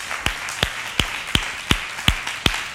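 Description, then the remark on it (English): A church audience claps together during a sermon in a steady, even rhythm, seven sharp unison claps ringing out over a soft wash of crowd noise, with no talking. “Go ahead and clap.”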